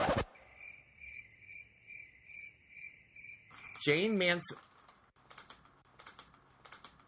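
Crickets chirp in a steady, pulsing trill for about three seconds, then a loud warbling scratch-like sweep cuts in briefly, followed by scattered faint clicks.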